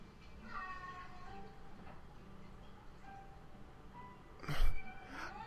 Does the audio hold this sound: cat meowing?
yes